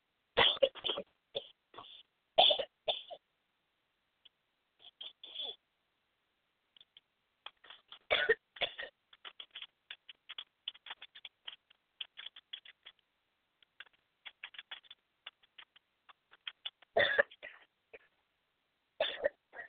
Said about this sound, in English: And I have to cough for a second. I do apologize.